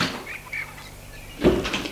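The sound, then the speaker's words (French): A half-rusted double-door iron gate to a large walled country estate creaks open with a thin squeal of rusty hinges, followed by a heavier clank and scrape as it swings, with no voices. “pour aller ouvrir le portail.”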